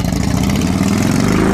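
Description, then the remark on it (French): A Harley-Davidson motorcycle engine rumbles steadily at idle, a loud, deep, throbbing low-pitched sound with an uneven pulsing beat and no voices. “Même les novices connaissent le ronflement légendaire des Harley Davidson qui ne passe jamais inaperçu.”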